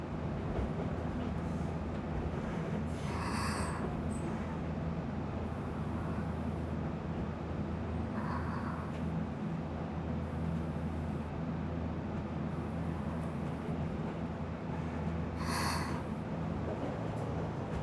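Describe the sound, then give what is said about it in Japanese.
A small electric train rolls along steadily at a slow, unhurried pace with a continuous low rumble. Its wheels give occasional soft clacks as they strike the rail joints on a line with many gentle curves. No one speaks. “ゆったりとした速度、メールの継ぎ目を車輪が叩いていく音もことことと大変のんびりです。”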